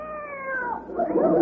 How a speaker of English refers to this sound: Our Siamese cat.